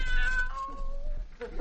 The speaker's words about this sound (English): Meow. What was that? I didn't hear nothing. Sounded just like a cat, don't mind.